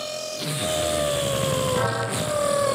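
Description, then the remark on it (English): A surgical power saw whines steadily and loudly for a few seconds during knee ligament surgery, its high motor pitch sagging slightly as it cuts, with no voices present. “Can you hear that power saw?”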